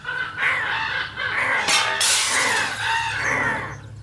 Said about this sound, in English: Glass exploded from the window and door and they poured inside, cawing in the same beat.